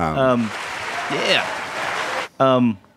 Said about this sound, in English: Everybody stop clapping. Yeah, everybody stop clapping. We have a very quick audience.